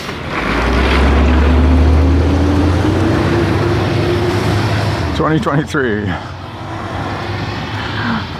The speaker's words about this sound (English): So of course the big trash truck and everybody else comes by just as I'm pressing the record button.